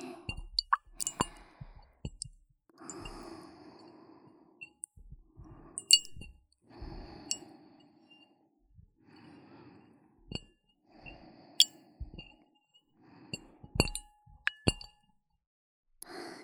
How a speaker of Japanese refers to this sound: 水の音って案外気持ちいいですよね。